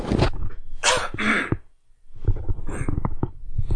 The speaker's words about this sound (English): I had to clear my throat there. Try not to do that too close to the mic. It turns out quite loud on the recording.